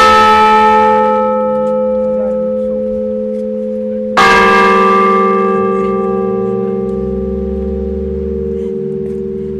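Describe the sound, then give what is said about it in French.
Large church bells from Tarastex, near Tarbes, ring out loudly in two strikes a few seconds apart, each deep, resonant toll humming on with a long, slowly fading sustain. No voices are heard. “Et c'est cloche, là, ces grandes cloches ?”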